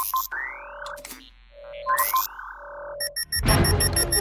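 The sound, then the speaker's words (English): Electronic scanning tones from a robot chirp and sweep upward, then an alarm set off by Eve's leaf emblem breaks out: rapid, repeating high-pitched beeps over a loud, harsh burst of noise that continues to the end. “Eve's leaf emblem sets off the alarms.”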